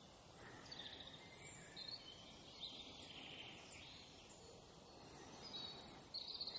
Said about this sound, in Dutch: Mooie vogels. Ja. Even lekker genieten in het bos.